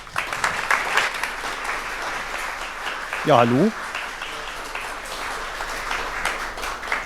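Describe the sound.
Sustained crowd applause welcoming a speaker to give a talk, a dense steady patter of many hands clapping, while a man briefly greets the audience through a microphone partway through.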